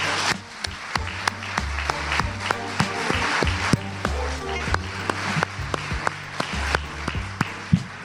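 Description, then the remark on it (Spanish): An audience applauds the poet Ida Vitale, winner of the 2018 Cervantes Prize, steadily for about eight seconds, a dense wash of clapping with sharper individual claps popping out, over a low droning hum. “El aplauso.”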